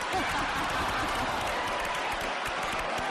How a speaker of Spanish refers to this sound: ¿Cuál es la opción correcta? La B. La B. Un aplauso.